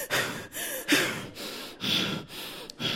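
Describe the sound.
A voice imitates heavy, exasperated breathing, as of a sister breathing on the phone: about six loud, rapid huffing breaths in a steady rhythm, with short gaps between them and no talking.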